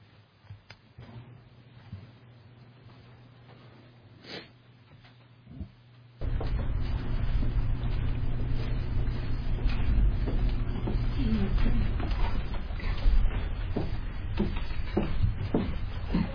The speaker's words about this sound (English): Those are the doors.